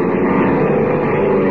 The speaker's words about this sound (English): Ah, here he comes in a power dive. Well, I'll do a little power diving myself before he can reach Tumblewood's plane. A power dive right into the propeller of his plane.